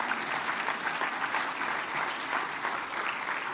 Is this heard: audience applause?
yes